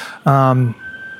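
An ambulance siren outside a courtroom during testimony blares in a loud, brief burst, then drops away, leaving a thin, steady tone lingering faintly in the background.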